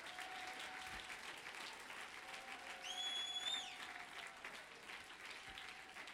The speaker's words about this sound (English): If you're with me, clap your hands.